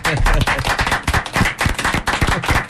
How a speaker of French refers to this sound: Merci messieurs, on s'applaudit hein, tous hein.